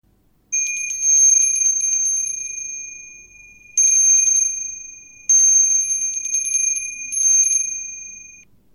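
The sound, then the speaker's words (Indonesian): A bell rings loud in four rapid, trilling bursts, the bright metallic jangle lingering briefly after each one, with no voices. “Yang pertama, suara lonceng.”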